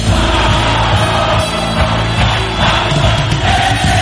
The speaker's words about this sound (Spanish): El público se manifiesta. El público se está manifestando a este audio, ¿eh?